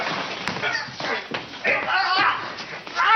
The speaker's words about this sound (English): They tussle over the gun, and the man punches Caswell away and pushes him toward the window.